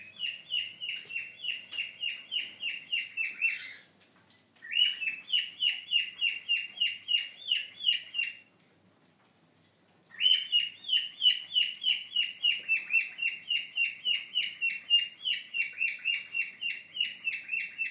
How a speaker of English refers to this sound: I don't know which cockatiel that is.